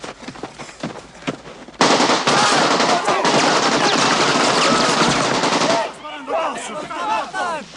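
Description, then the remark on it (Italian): A loud burst of sustained automatic rifle fire from a Kalashnikov, rapid shots blurring into a continuous roar for several seconds, then breaking off into scattered voices and echoes. “Questo qui è il cosiddetto Kalashnikov, il mitra preferito dal nemico. Fa un rumore caratteristico quando ve lo sparano addosso.”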